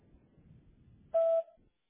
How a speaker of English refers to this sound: At the sound of the tone, please leave your name and number in a brief message, and I'll be sure to call you back as soon as possible.